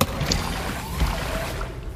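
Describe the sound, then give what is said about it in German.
Water trickles and swishes steadily for a couple of seconds as windshield wipers are switched on, a dense, continuous wet rushing at moderate loudness with a faint soft thump midway. No voices. “Ist das etwa Wasser? Warum ist es hier plötzlich so nass? Ich mach mal lieber meinen Scheibenwischer an.”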